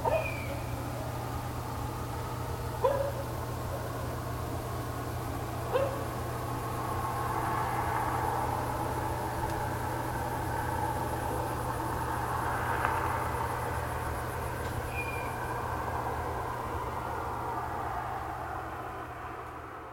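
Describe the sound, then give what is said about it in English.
A car passes at night, its broad wash of road noise swelling and fading, over a steady low night hum with crickets, and a few sharp, faint animal calls (dogs barking in the distance and an owl screech) in the background. “Night distant dogs bark, crickets, parents, owl screech, car passing”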